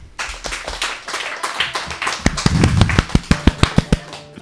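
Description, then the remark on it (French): An audience applauds all the groups, a dense wash of many hands clapping that grows louder, with some sharp, evenly spaced claps standing out near the end. “Bon, on peut applaudir tous les groupes.”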